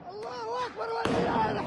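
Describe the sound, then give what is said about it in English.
Raised, wailing voices are cut off by a single sharp, loud stun-grenade blast, followed by a noisy, echoing wash of sound with voices continuing beneath it, as Israeli forces fire stun grenades inside a mosque during Ramadan prayers. “Earlier on Wednesday, Israeli forces stormed the mosque and fired stun grenades during Ramadan prayers.”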